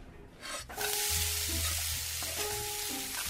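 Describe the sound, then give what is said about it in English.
Bacon and mussels cooking in a pan for beer-steamed mussels give off a steady, loud, crackling sizzle that swells after a brief softer start, with a low steady hum underneath and no voices. “Make a little beer steamed mussels with the bacon.”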